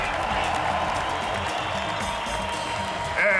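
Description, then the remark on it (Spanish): Steady applause from a festival audience welcoming the festival's producer, a dense, even wash of many hands clapping that holds throughout and swells slightly louder at the very end. “Pero más aplausos, por favor.”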